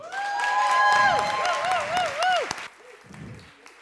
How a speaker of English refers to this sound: round of applause before he said a single word